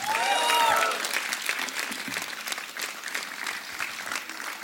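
An audience claps for a band in a dense, steady burst of applause, with a few high whistles and cheers rising over it at the start before the clapping settles into an even patter.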